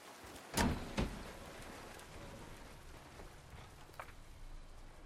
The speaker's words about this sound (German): Zehnter Mai, regnet immer noch.